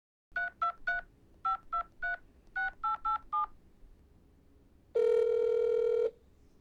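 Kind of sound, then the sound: signal or alarm, telephone dialing a call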